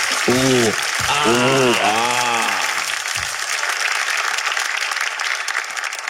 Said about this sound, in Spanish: Me ha gustado mucho su canción, amigos. Un fuerte aplauso para ellos que de verdad la rompen.